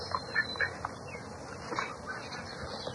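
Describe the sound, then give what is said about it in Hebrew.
Ducks, small and large, call in a few short, scattered quacks, fairly faint, over a steady outdoor background hum with no one speaking. “יש ציפורים קטנים וגדולים.”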